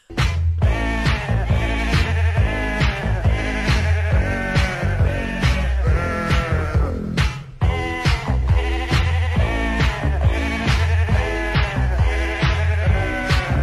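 Loud sheep bleats are pitched into a bouncy melody over a steady thumping beat and bass, carrying on continuously as a novelty record produced by Richard Branson that reached number 42 in the charts, with no talking.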